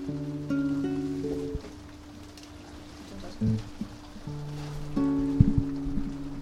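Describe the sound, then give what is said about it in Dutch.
Steady rain patters on the glass of a greenhouse overhead as a soft, continuous hiss, heard alongside sustained droning tones that start and stop, with faint voices in the background. “Terwijl buiten de regen vrolijk verder tikt.”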